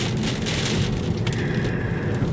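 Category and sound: nature, heavy rain falling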